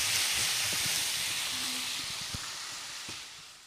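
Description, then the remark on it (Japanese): Steady hissing sizzle of ground chicken frying in a pan, with occasional low scraping knocks as it is pressed with a spatula to crumble it and stirred; continuous, no voices. “ひき肉を炒めるときはヘラでお肉を潰しながら炒めるとポロポロに炒まりますよ。”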